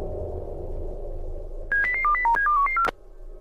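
A quick run of about ten short electronic beeps at varying pitches, a customer's phone number being dialed through a computer dialer system, follows a stretch of low background rumble and stops abruptly.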